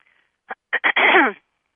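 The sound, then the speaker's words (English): A person clears their throat: a few quick, rough huffs followed by one longer, raspy rasp, with silence before and after and no speech. “And sometimes when I'm working with you who are listening, which are really embodiments of my own self, there will be a clearing that takes place, which is represented in my throat.”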